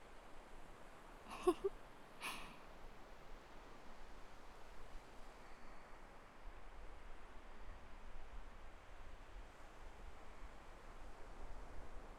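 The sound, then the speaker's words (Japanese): A steady, soft wash of ocean waves fills the whole recording with an even, hissing roar, broken only by two brief sharp clicks near the start. “あなたも波の音でリラックスしてる？”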